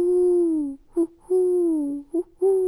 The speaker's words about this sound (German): Die Eule fliegt lautlos über ihnen hinweg und stößt Willkommensrufe aus.